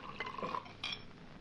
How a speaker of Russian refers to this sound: Наливайте, тетка, наливайте, наливайте. Наливайте.